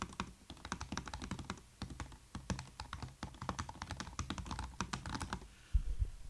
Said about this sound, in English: I got one of the new MacBook Pros. That's the keyboard. Sucker is loud. Now, I type about 200 words a minute. I'm probably at about 150 words a minute right now with this keyboard.